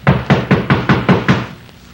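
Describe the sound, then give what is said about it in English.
Seven heavy, booming knocks pound on a wooden door in a fast, steady rhythm, loud, then stop. No voices are heard. “Open up! Open up this door!”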